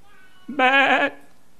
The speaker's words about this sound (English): I hear these sheep. You were told to annihilate them.